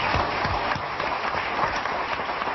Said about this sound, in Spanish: Entonces, un aplauso para el Padre de nuestro Señor Jesucristo.